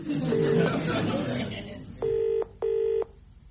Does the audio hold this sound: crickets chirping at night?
no